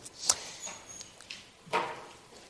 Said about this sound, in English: I do love to hear those pages turning.